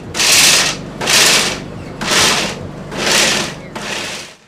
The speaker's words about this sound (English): The blenders are still buzzing away at Riley Vos's Blend Smoothie Bowl food truck.